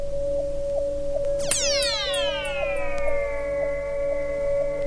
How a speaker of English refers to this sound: Well, we'll go New Age now. Okay. And Tibetan bells, or sometimes they're called singing bowls.